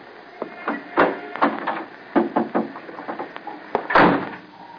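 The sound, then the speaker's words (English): A car door being handled and shut: a run of clunks, clicks and thumps, with a heavier slam-like impact toward the end. No one speaks. “Get in the car”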